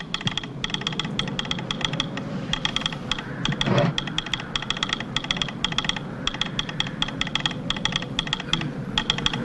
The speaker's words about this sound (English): I'm just going to play some of the sound effects and what Morse code sounds like for this. All righty.